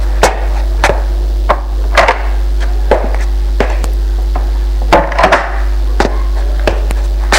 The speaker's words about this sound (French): Il frappe aux portes. Personne. Ni au premier, ni au rez-de-chaussée.